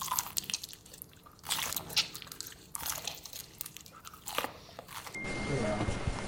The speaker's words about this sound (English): Crunchy slime?